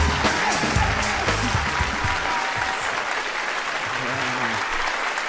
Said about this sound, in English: Listen to that applause.